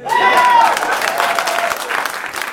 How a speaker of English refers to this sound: I'm done. Clap.